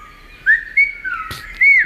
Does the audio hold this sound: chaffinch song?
yes